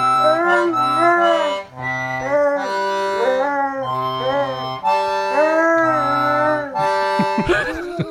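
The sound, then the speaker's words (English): A sung piece played from a cassette tape recording: sliding, howl-like tones rise and fall over a pulsing low note pattern, imitating a dog's howl. It stays loud and steady for about eight seconds, then ends in a short noisy burst. “I called that one Hound Dog. Kind of a dog.”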